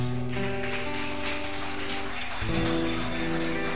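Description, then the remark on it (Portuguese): A crowd at a church service claps hands together to praise the name of the Lord, a dense, steady wash of applause, with sustained keyboard-like tones humming underneath that shift pitch partway through. “E eu agradeço a oportunidade e eu quero que vocês louvem o nome do Senhor com as palmas.”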